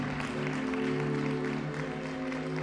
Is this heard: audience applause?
yes